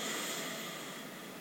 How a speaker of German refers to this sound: Wir atmen wieder durch die Nase ein.